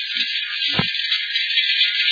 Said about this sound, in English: that's the sound of tiny particles of road dirt and dust hitting the body of your car.